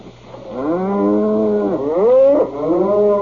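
A cow moos loudly in one long, drawn-out call that bends up and down in pitch, with no other sounds around it.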